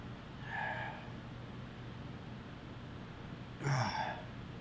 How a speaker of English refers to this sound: I'm already coughing.